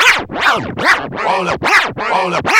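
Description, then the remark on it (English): Loud, rhythmic record scratching, a vinyl disc pushed back and forth under the needle in about six quick sweeping strokes, with no voices. “Hey, man, put the needle on the record, man.”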